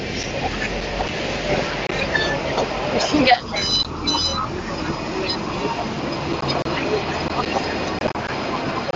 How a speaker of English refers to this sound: Oh, the tram is passing on my left hand side.